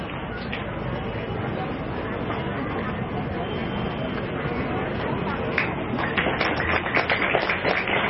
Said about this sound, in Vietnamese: Chúng ta hãy dành một tràng pháo tay để cùng họ sự phát tâm của các Phật tử các gốc cô đồng của chúng ta.